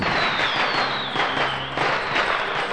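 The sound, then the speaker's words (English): A joke bomb, a package full of paper riddles prepared by the Riddler, goes off in Commissioner Gordon's office in a loud, sustained burst of crackling, hissing noise, with a high whistle sliding downward through it and a low rumble underneath for nearly three seconds. “The joke bomb was full of paper, and on each piece of paper, there was a riddle.”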